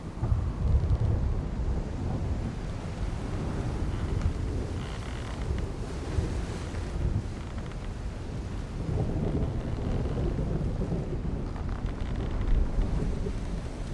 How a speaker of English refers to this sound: looks around at the wind-blown foliage and lightning flashes.